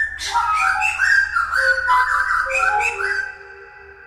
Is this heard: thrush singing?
yes